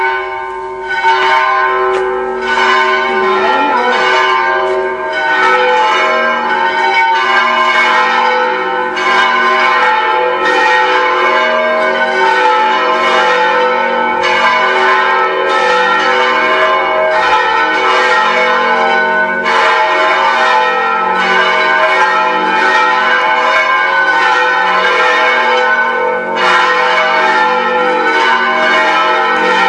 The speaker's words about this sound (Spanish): ¡Ay, qué bonito! Siguen las campanas.